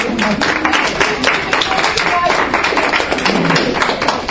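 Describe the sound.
An audience at a group discussion gives a round of applause for a participant's mother, clapping steadily for several seconds, a dense, even patter of many hands at a fairly loud level, with some voices murmuring underneath.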